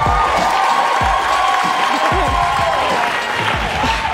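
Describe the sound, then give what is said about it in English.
The Daily Show studio audience applauds loudly and steadily as Pam Grier is welcomed, dense clapping mixed with cheers and whoops that hold at a constant level throughout. “Give an applause, ladies and gentlemen.”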